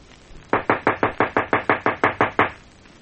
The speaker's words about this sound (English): Here we are. Knock on the back door.